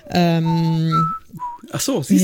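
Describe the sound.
A voice imitates hold music, whistling and humming a short tune: one long steady note, then a few brief higher whistled notes before voiced sounds close it out.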